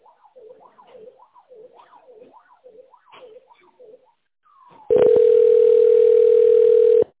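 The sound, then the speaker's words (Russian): A telephone ringback tone on a call to the company Rouk, heard while waiting for an operator to answer: a wavering, warbling electronic tone rises and falls in a steady pattern, then gives way to a loud, constant buzzing tone that holds for about two seconds. “Если вы знаете добавочный номер абонента, наберите его или дождитесь ответа оператора.”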